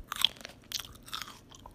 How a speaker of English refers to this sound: Five flies fly for fries, yummy munching making smiles.